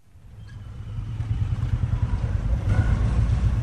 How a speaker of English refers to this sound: The streets of Delhi are teeming with beggars and businessmen, auto rickshaws, scooters, and cows.